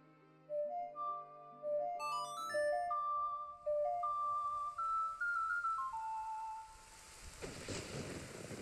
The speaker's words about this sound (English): Of course, that made it rain.